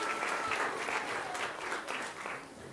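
An audience applauds people for their hard work, a dense, steady wash of clapping from many hands that holds at a fairly even level throughout, with no voices standing out above it.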